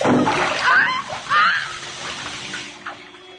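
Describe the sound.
Loud splashing in water, with a couple of heavy surges of sloshing and churning that settle into lighter dripping and movement, while a voice sounds faintly underneath.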